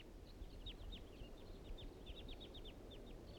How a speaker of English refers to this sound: The wild birds are coming back. Now they're flying around the clearing.